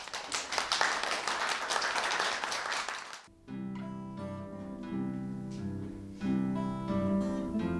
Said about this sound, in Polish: To są pierwsze ich występy publiczne, także jeszcze większe brawa dla nich.